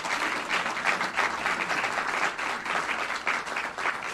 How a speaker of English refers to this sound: The Office of Mayor Ben Walsh, 100 Black Men, they're our community partners because they are hosting us tonight and we're utilizing their space. So can you give our community partners a round of applause, please?